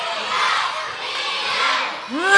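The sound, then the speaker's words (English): A large crowd roars and cheers loudly and continuously, a dense wash of shouting voices imitating a lion's roar, swelling and dipping, with a rising voice cutting in at the end. “I think you guys need to cheer a little louder for Leo.”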